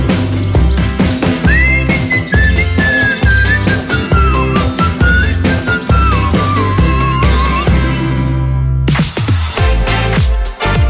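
A bright, wavering whistled melody glides and bends over a busy, upbeat music bed for several seconds, then drops out as the backing music continues on its own.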